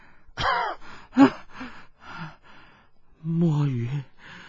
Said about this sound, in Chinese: 夫人不住的咳嗽喘气，已是难以继续。